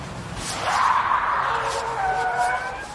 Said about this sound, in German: Was ist denn das? Siehst du das Auto da, das mit den quietschenden Reifen um die Kurve fährt? Oh, jetzt hat es angehalten und jemand steigt aus.